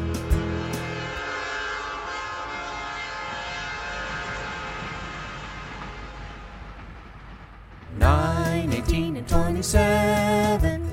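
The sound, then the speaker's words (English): A train rumbles past with a long sustained horn blast, then a louder burst of blaring, bending horn honks near the end. “90 and the train rides over. Nines come blow your horn.”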